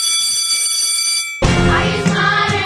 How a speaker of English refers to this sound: Ring the bell.